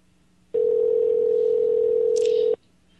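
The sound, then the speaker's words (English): A loud, steady telephone dial tone hums for about two seconds and then cuts off, with a brief higher-pitched blip near the end, as a phone call is placed to a governor's office. No one speaks. “I don't think they're going to answer the phone, folks.”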